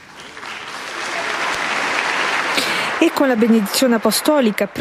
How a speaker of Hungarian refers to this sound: És ezzel a taps viharral ér véget az audiencia a 6. Pál teremben, ahol hát szemmel láthatóan sokkal többen vettek részt már a mai audiencián, mint ezelőtt egy héttel.